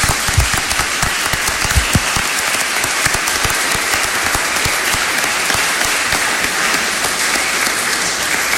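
Sustained applause from a large crowd at a church service for a couple's 50th wedding anniversary, dense and steady throughout, with many hands clapping at once and no voices rising above it.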